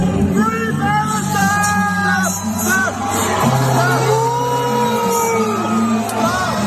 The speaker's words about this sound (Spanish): Anoche fue muy aplaudida, pero parece que ese aplauso fue provocado, porque lo que llevaba hasta entonces era abucheos.